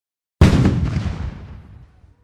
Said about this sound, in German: Das war eine Kanone und darauf folgt natürlich ein Glockenschlag.